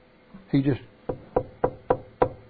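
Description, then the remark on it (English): A short burst of voice, then five sharp, evenly spaced knocks on a door, fairly loud, rapping in a steady, insistent rhythm, demonstrating someone who keeps on knocking at a door. “He just kept on knocking at the door.”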